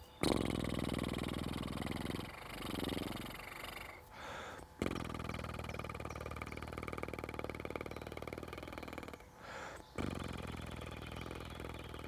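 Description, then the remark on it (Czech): Long, steady lip buzzing exercise on a slow, smooth, long exhale, a continuous low flapping raspberry held for several seconds at a time, broken by a few short breaths, fairly loud with no talking. “A teď stejný princip výdechu. Pomalý, plynulý, dlouhý. Aplikujte zase na prdění. Vibrace je tu.”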